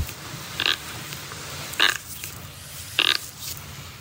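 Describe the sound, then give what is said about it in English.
Three short, wet squelching squeaks from a person rubbing a waterlogged eye with a bit of water behind it, evenly spaced about a second apart, each a brief gurgling burst over a low, steady background rumble. No one speaks. “Rubbing my eye and I think it was a bit waterlogged, right, and had a bit of like water behind it and it was so loud”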